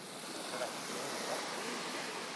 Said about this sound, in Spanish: ¿Así suena el tiempo? Así suena el mar. Sí. ¿No pasa un barco o algo porque han subido las olas? Escucha el mar.